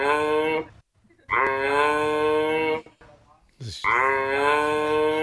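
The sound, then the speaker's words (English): A giraffe gives three loud, drawn-out, harmonic calls, a bit like moos or bleats, each lasting about a second with short silent gaps, clear. “Would you believe that's actually... A giraffe.”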